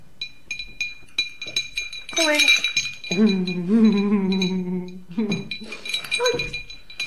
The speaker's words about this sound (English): Clink. Clink. Clink.